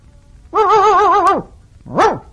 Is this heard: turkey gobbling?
no